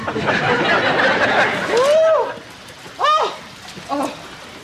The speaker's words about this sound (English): Why doesn't it stop? Haven't we been through enough? The riding trails are underwater, the April dance has been canceled, and I don't even want to think what the rain is doing to my hair.